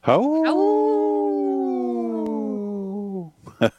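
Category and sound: animal, dog howling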